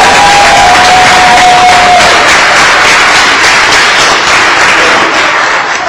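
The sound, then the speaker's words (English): A crowd in Nutley, New Jersey breaks into sustained applause and cheering to honor the 5th and 6th grade football team, a dense, loud wash of clapping and shouts that fills the whole stretch, with a faint whistle-like tone early on. “Go ahead, time for a round of applause.”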